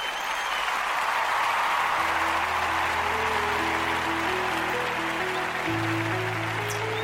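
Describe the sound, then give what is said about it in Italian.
A steady applause sound effect, a dense wash of clapping that holds at an even level throughout, with low musical tones rising underneath as the closing theme tune begins. “direi con questo vado in applausini e poi in sigla finale.”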